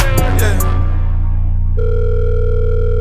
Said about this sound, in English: Why aren't you picking up the phone? Eh? You aren't even answering my text messages, bro.